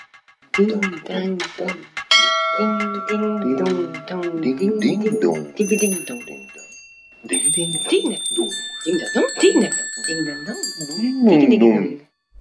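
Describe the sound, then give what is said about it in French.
A bright bell chime rings out in a few separate strikes, each tone hanging and ringing on, while a person keeps talking over it. “Antenne, ding ding dong.”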